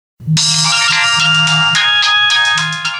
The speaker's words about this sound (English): My friend's cell phone rings.